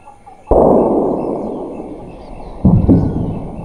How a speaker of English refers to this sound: The sound of gunfire.